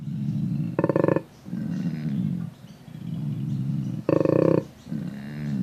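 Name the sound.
koala bellowing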